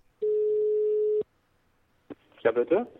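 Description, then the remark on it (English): A single steady telephone ring tone sounds for about a second as an outgoing call is placed, clear and even, followed by a click on the line and then a person beginning to speak. “So I tracked down another phone number, and I called.”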